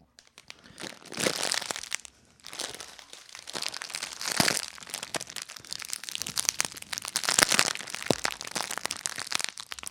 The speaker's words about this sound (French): Exactement, ce bruit de chips qui est bienvenu. Non, il n'y a pas de pardon, excusez-moi, dans la musique concrète, on ne s'excuse pas, on laisse faire.